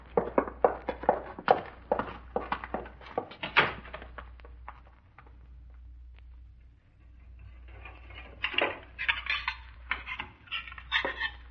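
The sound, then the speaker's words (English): Dishes and cutlery clatter and clink in quick, uneven bursts, loud at first, then a quieter lull before the rattling picks up again, all over a steady low hum. “Look, I got dishes to do and this joint to clean up.”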